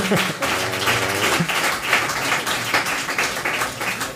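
Sparse, hesitant applause after a 2-1 match prediction for VfB in the Mein VfB Kicktipp segment, a steady patter of scattered claps lasting about four seconds at moderate volume, with a low hum of murmuring underneath.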